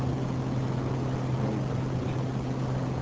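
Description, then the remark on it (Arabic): An electric generator engine runs steadily, its loud, even drone carrying a low humming tone with no change in pace and no voices over it. “انا اظن باسباب الحيطه اشتريت موتور كان الكهرباء.”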